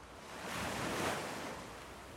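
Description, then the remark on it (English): Ocean waves wash in with a soft, broad hiss, swelling to a gentle peak and easing back down. The surf sounds steady, with no voices. “Now together, let's take another deep breath, and I invite you to listen to the sounds of the waves.”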